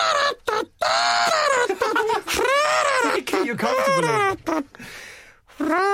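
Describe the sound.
Someone vocally imitates a saxophone riff, a loud wailing melody of several swooping phrases with bending, sliding pitch, broken by short breaths and pauses.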